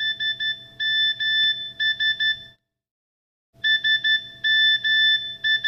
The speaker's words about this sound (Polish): Otrzymałam SMS-a.